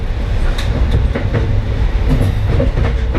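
A passenger train bound for New York City Penn Station rolls steadily along the rails toward its next stop, Buffalo Exchange Street, as conductors collect tickets; a loud, constant low rumble punctuated by scattered sharp clacks from the wheels over track joints. No voices are heard.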